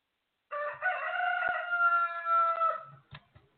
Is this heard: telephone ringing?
no